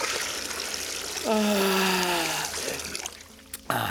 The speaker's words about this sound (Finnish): Anteeksi, voisinko pyytää teitä laskemaan minulle hieman lisää kuumaa vettä?